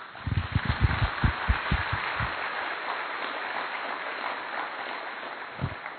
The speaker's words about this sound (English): So round of applause.